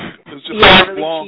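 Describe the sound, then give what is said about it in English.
A voice imitates a weak nuclear bomb explosion as a film sound effect: a short breathy, hissing burst that swells around the middle and fades into a flat, drawn-out tone, unconvincing and thin. “And there was this scene where they dropped this nuclear bomb trying to blow up the aliens, and this guy was supposed to do the explosion, and it just sounded like...”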